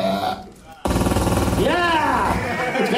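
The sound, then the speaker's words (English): A voice imitates a Tommy gun firing: a loud, sudden burst of rapid, rattling pulses that runs for a couple of seconds, with a rising-and-falling vocal tone sliding through the chatter. “Do the Tommy gun for me.”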